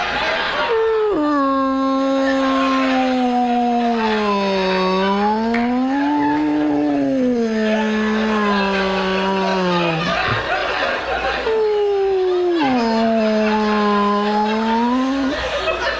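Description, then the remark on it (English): A voice imitates humpback whale song, mimicking a dad's noises in the bathroom, with long, loud, wavering moans that slide up and down in pitch, nearly continuous with a brief pause midway. “My dad, honestly, when he's in the bathroom, it sounds like ….”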